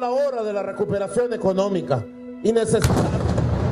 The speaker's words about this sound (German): Da explodiert etwas, er und alle anderen schauen nach oben, die Bodyguards reagieren und schirmen ihn sofort ab.